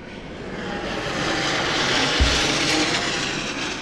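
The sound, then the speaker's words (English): An airplane roars overhead, its broad engine rumble swelling steadily louder toward the middle and then holding as it passes low, with no voices; an airplane preparing to land at the nearby Portland Jetport in Maine, flying over an 8-acre parcel on the Portland Peninsula. “As airplanes prepare to land nearby at the Portland Jetport, they fly over what could become the new epicenter of soccer in Maine.”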